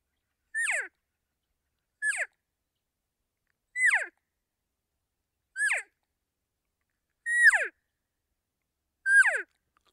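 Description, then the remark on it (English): Six evenly spaced cow calls made on a mouth call, each a short high-pitched mew that starts on a sharp upper note from increased tongue pressure and slides steeply downward as the pressure is let off, with brief silences between and no talking. “And that's all there is to a cow call.”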